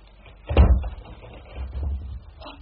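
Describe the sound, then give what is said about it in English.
A door swings shut with a dull thud, followed by a softer, muffled rattle and scrape, like a latch or lock being worked. No one speaks. “Oh, please, lock the door,”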